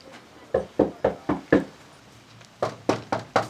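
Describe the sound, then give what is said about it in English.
Knuckles rap on a wooden door as a canvasser goes door to door in the Puerto Rican neighborhood of Buenaventura Lakes: five sharp, evenly spaced knocks, a short pause, then four more. The knocking is fairly loud, with no voices. “He's knocking on doors this weekend in the overwhelmingly Puerto Rican neighborhood called Buenaventura Lakes.”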